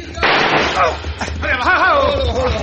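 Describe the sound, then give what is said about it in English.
A loud gunshot bursts out abruptly with a rough, rumbling tail, followed by excited voices shouting over a steady low background hum. “watch this shot. Watch the explosion.”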